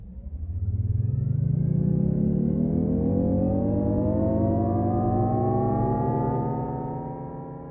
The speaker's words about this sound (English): That sound, released last year, was created for Jaguar's electric I-PACE vehicle.